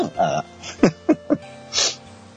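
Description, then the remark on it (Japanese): A few short, hitching breaths in quick succession build up to a single breathy, hissing sneeze, followed by a quiet stretch with faint background hum. “あ、くしゃみが出る。”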